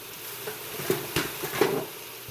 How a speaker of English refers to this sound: Christine throws vegetables and chicken bones straight from the freezer into the Instant Pot. Very quickly, it's all sizzling nicely.